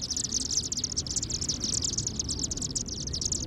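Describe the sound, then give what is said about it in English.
A flock of chimney swifts chatters as it swirls down into a chimney, its communal roost site for the night, a continuous wash of high, rapid twittering chirps overlapping throughout, over a steady low rumble, with no voices. “We've just witnessed a flock of chimney swifts enter their communal roost site for the night.”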